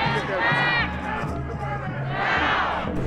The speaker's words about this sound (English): After her speech, the crowd began to move out onto the streets of Plymouth. As it was a larger gathering, one of the largest I've seen in my 20-plus years of attending this event, there were many first-timers present.